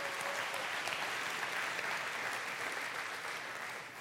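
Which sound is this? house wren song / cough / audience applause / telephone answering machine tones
audience applause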